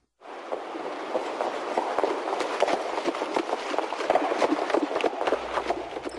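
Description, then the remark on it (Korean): Heavy wheels of a ceremonial carriage rumble and clatter steadily over a hard road, a continuous rolling roar dotted with sharp knocks and rattles, loud throughout. “그녀는 의장마차의 육중한 바퀴 소리를 들었다.”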